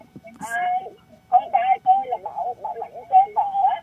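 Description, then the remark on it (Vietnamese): A radio broadcast bleeds back through a caller's phone line from a radio left on at the caller's end, its voices thin, tinny and slightly echoey, coming in bursts of muffled talk at moderate loudness. “Cô ơi, không được, cô vẫn chưa tắt được cái radio, cô nghe bằng điện thoại thôi, nó mới rõ được, tiếng của cô nó không bị vọng lại nha.”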